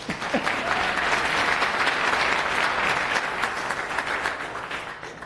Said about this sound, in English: want to give you a round of applause for the person with the TinyGo earrings.